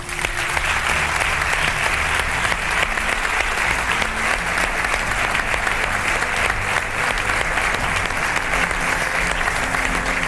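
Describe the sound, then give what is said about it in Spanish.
A huge crowd applauds in a Spanish football stadium in tribute to Rafa Nadal, a dense, steady roar of clapping that holds at an even, loud level for about ten seconds with no voices on top. “Creo que sería un bonito homenaje por parte del fútbol español el aplauso hacia Rafa Nadal.”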